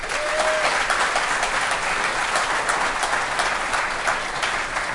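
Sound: audience applause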